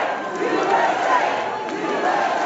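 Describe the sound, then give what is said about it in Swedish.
A large audience at the Kennedy Center roars continuously in a dense, sustained wash of cheering and shouting as President Trump raises a clenched fist, the cheers drowning out boos; loud and unbroken throughout, with no clear individual voices standing out. “Flera i publiken visslade och gjorde tummen ner mot presidentparet, men buropen överröstades sen av jubel när Trump höjde en knuten näve i luften.”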